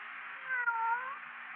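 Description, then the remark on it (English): A single drawn-out cat meow in the radio drama Suspense, fairly loud, with a rising and falling tonal contour lasting about a second, heard alone with no talking. “Here, kitty, kitty, kitty, kitty, kitty. Oh, you listen, won't you?”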